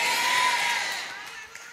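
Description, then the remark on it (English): A large audience shouts and cheers together, a dense roar of many voices that is loud at first and then gradually fades away. “And everyone shouted. Everyone shouted.”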